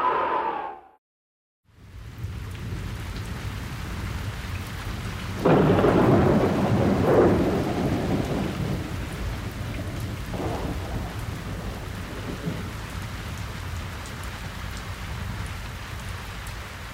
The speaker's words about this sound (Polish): A potem słychać było odgłosy burzy i padającego deszczu.